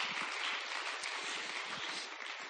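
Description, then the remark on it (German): Steady audience applause for the preachers fills the whole stretch, a dense crackle of many hands clapping at an even level with no voices over it. “Noch ein Applaus für alle, die das Predigpotenzial haben.”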